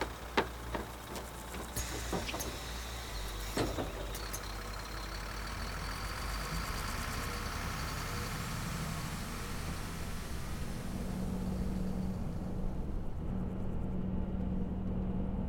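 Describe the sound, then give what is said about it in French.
The engine of an on-demand city bus runs steadily with a broad, continuous rumble and low hum, a few sharp clicks and knocks near the start, and no voices. “C'est notre bus.”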